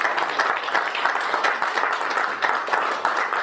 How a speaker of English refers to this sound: It's a testament to an unwavering commitment of the ABA, our board of directors. They've continued to enhance and grow the commercial baking industry. So I just want to give the board a round of applause.